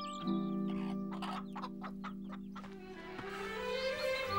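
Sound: chicken clucking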